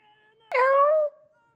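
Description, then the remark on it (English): A single drawn-out meow from a cat called Ghost Cat, fairly loud, sliding downward in pitch over about half a second, with quiet background around it and no talking. “Ghost Cat, do you want a pat?”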